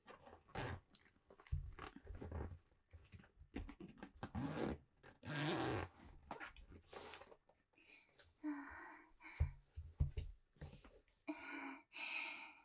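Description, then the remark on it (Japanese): A large toy bag's zipper is pulled open in several quick, raspy runs to take something out, with rustling and handling noises of the bag between the pulls. “大きめではないんですけどちょっとチャックがついた少し大きめのバッグです。”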